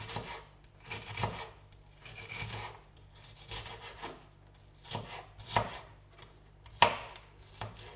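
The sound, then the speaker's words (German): A knife dices an onion into small cubes on a cutting board, giving quick, irregular chopping taps in short bursts with brief pauses. The cutting is fairly clear, with no one speaking. “Also Zwiebel in schön kleine Würfel.”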